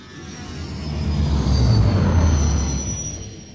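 A steady, heavy rumble of a train rolling along the tracks, low and droning, swelling a little louder midway with a faint high whine above it. No voices.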